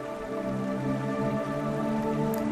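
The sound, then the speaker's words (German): Water drips and trickles steadily in a soft, continuous patter, blended with a sustained, calm tonal hum. No voices are heard. “Entspannung am Wasser.”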